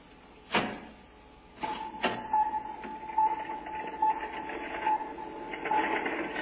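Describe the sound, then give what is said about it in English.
A sharp mechanical clunk, then a couple more thuds as a door slides open with a steady humming whine and rattling machinery that continues to the end. No one speaks. “Open the door.”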